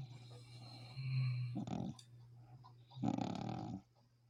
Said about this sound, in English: I was going to say, that sounds like actual snoring. That's not just breathing heavy.